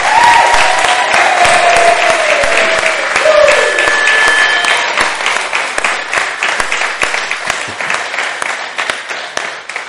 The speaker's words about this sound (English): It's been really wonderful to be together, and if you don't mind, I think the group deserve another round of applause for all they've done.